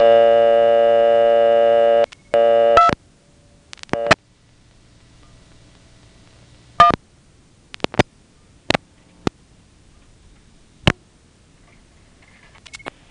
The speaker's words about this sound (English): Now, to get around this, I'm going to have to dial 2-1 again, and as soon as it returns my quarter, I'll have to redeposit so that the phone will let me hear whatever the heck this is.